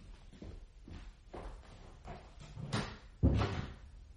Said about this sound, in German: Und nun gehen Sie mal nach nebenan. Die Tür machen wir zu.